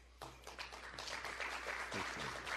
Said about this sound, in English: Very polite applause from the crowd, which sounds small.